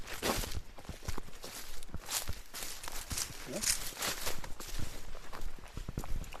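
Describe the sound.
Steady footsteps crunch along an outdoor path through a green, varied landscape of meadow and oak woods, passing under poplars, at a relaxed walking pace, fairly loud, with faint voices talking in the background.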